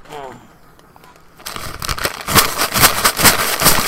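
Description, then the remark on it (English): A one-pound bag of Skittles candy rustles and crinkles in loud, crackly bursts that start about a third of the way in and keep going in an uneven rhythm, after a faint quiet opening. “as you can hear, that's the one pound bag of Skittles I have.”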